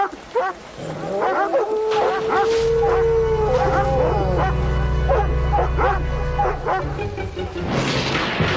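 animal, dogs barking

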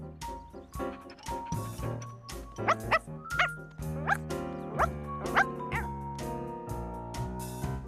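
animal, puppy barking and yipping

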